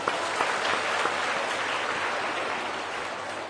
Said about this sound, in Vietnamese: Dành một tràng pháo tay.